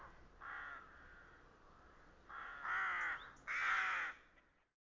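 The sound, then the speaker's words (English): Several harsh crow caws ring out in a loose series in the city, the last two louder, with a faint outdoor background and no voices. “One other thing to remember in living with crows like we do in the city is that when it's time for nesting season, not only do crows like to protect themselves from any predators like hawks, but they're also trying to protect themselves from anything”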